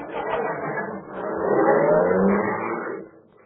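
A rented police car's engine revs loudly, swells to a peak and then fades as the vehicle pulls away, leaving quiet behind.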